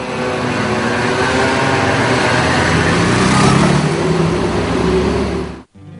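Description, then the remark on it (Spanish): Loud, continuous rumble of engine noise from road traffic, a dense low drone that swells slightly midway as a vehicle seems to pass, then cuts off abruptly near the end. “También lo hace a través del ruido, en forma de contaminación acústica. El culpable casi siempre es el tráfico.”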